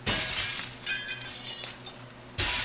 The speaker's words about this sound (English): Are you glass tod raha bhai pura mirror bathroom mein? It's a fucking mirror